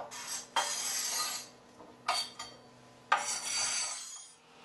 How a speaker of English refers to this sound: Now these vegetables are finished, I'm going to start chopping my onions.